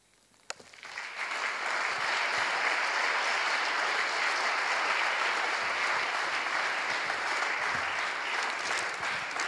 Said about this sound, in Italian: prenditi ancora un applauso, prenditelo tutto.